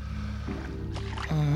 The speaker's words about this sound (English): Here comes a boat. And who's rowing it? It looks like no one. The boat glides up to Jack. He steps in. The oars dip into the water.